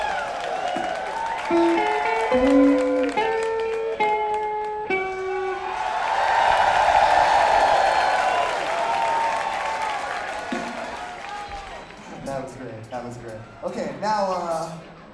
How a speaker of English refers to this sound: And the final final language that you need to know about is... which is two turn, turn, turn. At which point you all turn around and start cheering as if the stage is in the back of the room. So let's try that one.